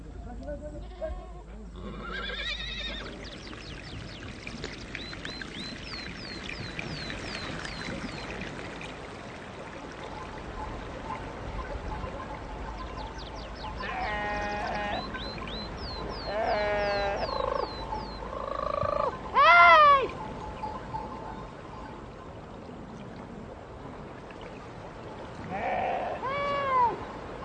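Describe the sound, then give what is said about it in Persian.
Sheep bleat several times in short, wavering calls, some fairly loud, over a steady rushing outdoor background like running water. “پس شما بفرمایین عاشق چشم ابروی ما هستین که میخواین گوسفندامونو ببرین ییلا.”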